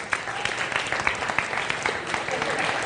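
A crowd applauds steadily, a dense wash of many overlapping claps with sharper individual hits popping out, sustained at an even loudness for a few seconds.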